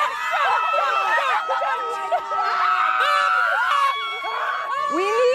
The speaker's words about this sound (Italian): All'esterno della villa, tra uno sventolio di bandiere, l'esplosione di giubilo dei suoi sostenitori.